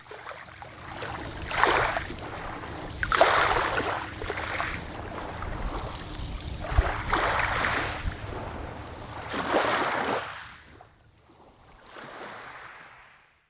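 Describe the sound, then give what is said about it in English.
Rushing water of a waterfall in wild countryside in Ireland roars steadily, swelling in repeated surges every second or two over a deep low rumble, then thins out and fades near the end. “Today's a lovely day, but in the winter, the wind coming down here, you've got the waterfall.”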